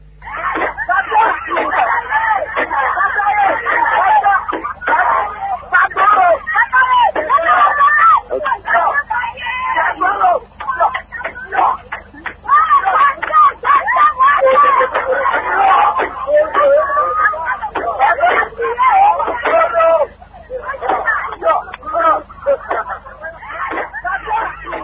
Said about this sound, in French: Les personnes engagées dans ces travaux de salubrité de la ville sont prises en charge par l'initiateur de travaux, suivant un peu l'ambiance de travaux qui règne sur ce boulevard.